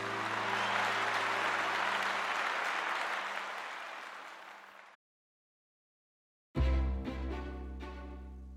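audience cheering and applause

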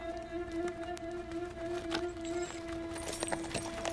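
horse hooves clip-clopping

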